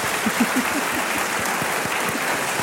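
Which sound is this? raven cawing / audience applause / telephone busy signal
audience applause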